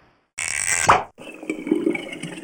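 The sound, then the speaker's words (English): A burst of splashing water with a bright, rising plop of a drop, followed by softer trickling and a few scattered drips as the last drops of rain fall, moderately loud, with no voices. “Oh, yeah, well, the water kept coming down for 40 days and 40 nights, and everything on the earth died except what was in the ark.”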